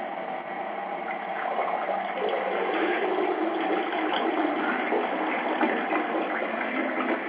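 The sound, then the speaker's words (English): A toilet flushes with a steady, rushing wash of water that holds at an even loudness for several seconds, a broad hissing gurgle with no voices. “Nobody fixing the damn toilet.”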